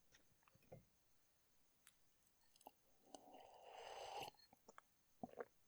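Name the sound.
sipping wine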